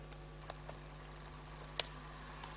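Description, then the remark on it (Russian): A handful of soft, scattered keyboard taps as someone types the address of a controller in a running programming project, irregularly spaced with one slightly sharper click, heard quietly over a low steady electrical hum. No one speaks. “У меня теперь есть этот контроллер, поэтому я могу сделать небольшой хак, ввести здесь адрес моего контроллера.”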